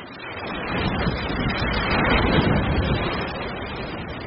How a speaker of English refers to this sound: So we will run a wave for you now. First, you'll hear the big engine that makes the wave and sends water through the tank. Then, the wave heads toward us.